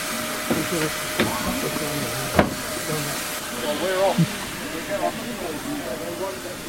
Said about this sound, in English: And we're right alongside the engine at this moment here at Swanage. Safety valves just gently blowing off, and people getting on board for their train ride behind this historic locomotive.